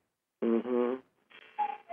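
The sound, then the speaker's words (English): A cuckoo clock calls. A reedy, buzzy tone comes first, then two short hooting notes, the second lower than the first, in a falling cuckoo pattern at moderate volume with no talking. “The cuckoo clock just agrees.”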